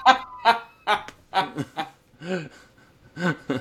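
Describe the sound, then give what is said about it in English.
A person imitates a duck, letting out a quick run of short, nasal quacks, mixed with bursts of chuckling laughter. “Oh, that's the best duck impression I've ever seen.”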